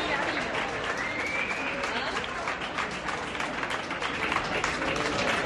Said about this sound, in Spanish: Aplausos para Carolina Marín en el aeropuerto de Madrid-Barajas.